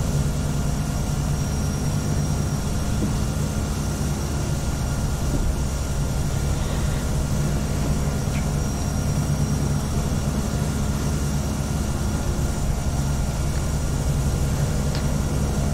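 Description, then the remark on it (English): A steady, low simulated aircraft engine drone in the FSX flight simulator hums continuously at idle, with a constant tonal whine above it, as the plane slowly taxis to runway 04 right at KBOS airport. No one speaks. “I practiced it enough, but I did not try with FS passengers, and I'm hoping that it'll work correctly taxiing to this runway.”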